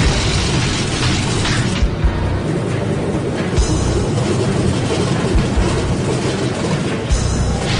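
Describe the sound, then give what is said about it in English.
An old 18-cylinder piston aircraft engine roars in a loud, steady drone, broken by a few sharp backfiring pops at irregular intervals, during the descent into Delany. No one speaks. “We were on the descent into Delany, and the engine started backfiring.”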